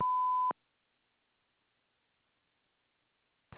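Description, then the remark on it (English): A single loud electronic answering-machine beep after the greeting, a steady tone lasting about half a second, followed by a long stretch of near silence until another sound begins at the very end. “Please leave your name and number after the beep.”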